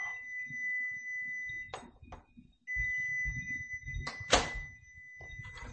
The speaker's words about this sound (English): Boy, somebody's got a noisy ass microwave. That's freaking annoying, man.